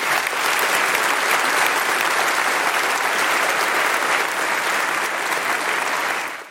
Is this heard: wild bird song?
no